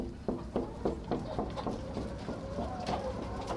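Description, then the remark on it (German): Several roosters cluck and murmur in a steady, overlapping chorus inside a long, rather low coop on a poultry farm in Appenzellerland, Switzerland, punctuated early on by a quick series of short, sharp bursts. No one speaks. “All die Hähne leben in einem langen, eher niederen Stall.”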